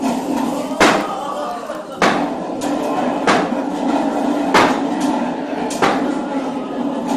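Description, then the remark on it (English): Banging thunder sound effect: about six loud, sharp, forceful bangs at irregular intervals, over a steady murmur of background noise. “And the thunder roared.”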